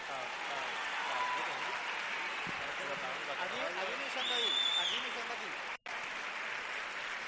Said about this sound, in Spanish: Hoy creo que es un día para darle un aplauso bastante grande y que le llegue a sus casas.